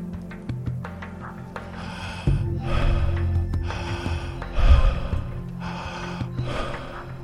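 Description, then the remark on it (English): Deep, audible breaths flow in and out in a continuous connected loop, with no pause between inhale and exhale, steady over a soft, sustained musical drone. “Beginning now to connect your breath. No pause between the in and the exhale. Breathing in a circle.”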